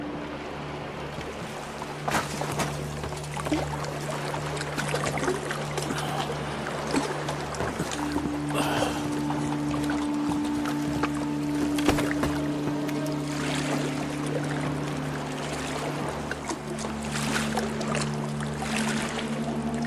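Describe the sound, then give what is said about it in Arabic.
Small boats with boatmen glide through water, setting off toward Abaskun with a helping wind, with steady sloshing and intermittent splashes, accompanied by a continuous low droning hum and occasional creaks, fairly loud, with no voices. “والزوارق والملاحون جاهزون للانطلاق. الرياح مساعدة، سنصل إلى أبسكون بعد ساعة تقريبا.”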